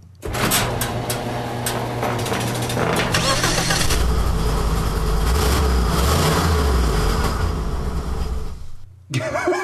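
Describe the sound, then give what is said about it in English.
A car engine cranks over with the whine and churn of a starter motor for several seconds, loud, then cuts off abruptly near the end without catching. “The starter motor and the engine may not be connected to each other.”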